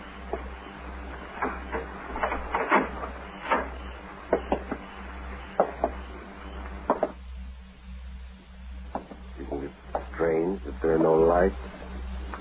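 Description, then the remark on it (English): A door is opened with a series of sharp clicks, thumps and rattles from the latch and handle, followed by a brief stretch of people talking. “Open the door.”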